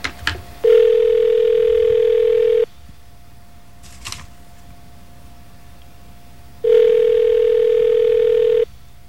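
telephone ringing

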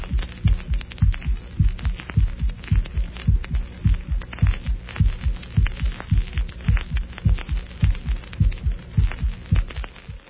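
heart sounds

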